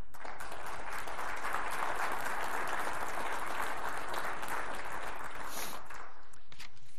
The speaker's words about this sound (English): Thank you to all the council and board members who have completed their terms. You are very appreciated. So thank you. If you're going off the board, it's appropriate to give them a round of applause.